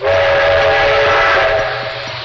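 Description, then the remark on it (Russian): A loud train roars as it enters a tunnel with stone walls, with a steady, rhythmic clatter of wheels under a dense rushing din and a sustained tonal whine, easing slightly toward the end. No voices. “Поезд въехал в туннель, и перестук колес, отраженный от каменных стен, сразу заглушил все остальные звуки.”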